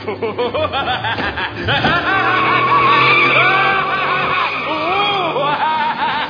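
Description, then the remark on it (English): A luxury car skids with tires squealing in loud, wavering high-pitched whines over a low engine rumble, sustained for several seconds. “I was playing in my wholesome, childlike way, little realizing that I was about to be struck down by the luxury car of death.”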